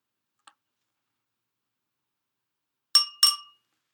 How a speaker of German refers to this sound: Kling, macht ein Glöckchen.